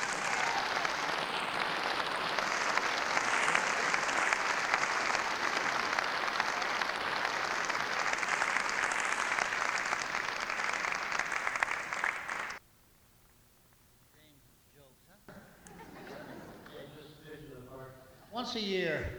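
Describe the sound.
An audience at Elkins claps for the performers in a dense, steady wash of applause for about twelve seconds, then it cuts off sharply. After a short lull, a man begins speaking.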